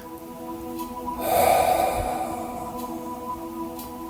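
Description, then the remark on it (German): A single deep, breathy exhale, consciously breathing out during a guided breathing exercise, swells up over a steady humming background drone, rising to a soft peak and then fading away slowly. No one speaks. “Und mit dem nächsten Ausatmen nochmal bewusst aus dir hinaus atmen.”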